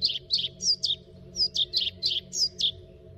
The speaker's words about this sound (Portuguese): Em jardins, parques, matas e bosques, é comum avistar-se e ouvir-se nestas alturas do ano. É o papa-moscas preto.